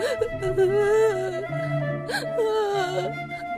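Faint, muffled, distant crying comes from the other side of a corridor, rising and falling in long wavering whimpers that pause briefly and start again, with a low steady hum underneath.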